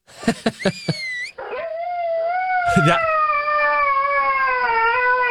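A dog lets out several quick, sharp barks, then breaks into a long, sustained high-pitched howl that holds a steady whistling note, with a brief bark in the middle.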